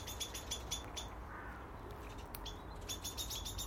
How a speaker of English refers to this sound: She's chasing the male blackbird out the garden.